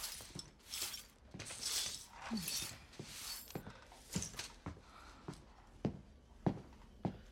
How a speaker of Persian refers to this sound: مایک میشه اینقدر قدم نزنی؟